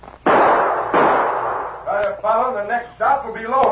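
two gunshots fired

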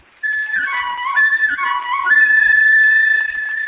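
whistle blowing

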